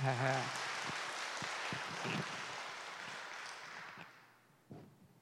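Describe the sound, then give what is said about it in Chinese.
A crowd at a question-and-answer session with four Buddhist masters breaks into steady, dense clapping for an answer given, holding for several seconds and then tapering off, with a brief voice heard as it begins. “不，没有补充，讲得非常好了，大家鼓掌。”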